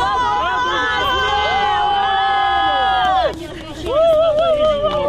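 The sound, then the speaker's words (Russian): Several dozen activists in Rostov-on-Don, gathered in support of Anastasia Shevchenko, cheer loudly, many voices holding a long drawn-out shout together, then a brief dip before a second burst of cheering rises again. “Так, несколько десятков активистов, которые приехали в Ростов-на-Дону, чтобы поддержать Анастасию Шевченко, которую судили за участие в нежелательной организации, радовались тому, что Анастасия Шевченко не поедет в колонию.”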